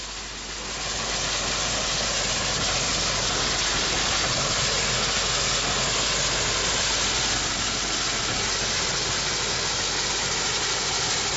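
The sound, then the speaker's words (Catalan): A steam locomotive running steadily, a loud continuous rumbling chug that fades in over the first second and then holds a dense, even mechanical roar. No voices. “Bueno, ara escoltarem la màquina de vapor en marxa.”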